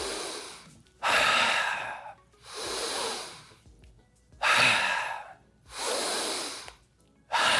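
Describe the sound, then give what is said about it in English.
Several deep breaths, part of 10 deep breaths taken while bouncing in place with eyes closed, alternating long airy inhales and exhales in a slow, steady rhythm with brief pauses between them, and no talking. “So we have people, we'll have them stand and we'll have them bounce in place and close their eyes and take 10 deep breaths.”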